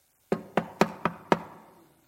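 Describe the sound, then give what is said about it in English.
Five quick, evenly spaced knocks on a hard surface, like rapping on a door, fairly loud, with a short ring fading after the last one and no talking. “He kept knocking.”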